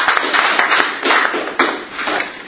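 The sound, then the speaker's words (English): Steady applause from an audience after a presentation: many dense, overlapping claps forming a continuous crackling wash, fairly loud throughout with a few brief swells, and no voices. “I think we should applaud again for a very clear presentation without any help.”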